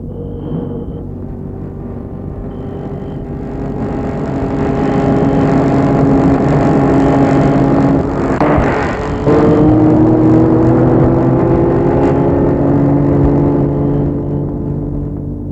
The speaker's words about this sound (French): Les trois garçons entrent dans la voiture et partent.